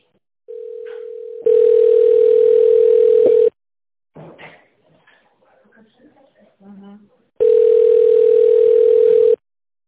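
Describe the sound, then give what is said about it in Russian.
A telephone rings in long, steady electronic bursts, two loud rings separated by a pause with faint rustling and small noises in between. “что-то там телефон обрывает на все.”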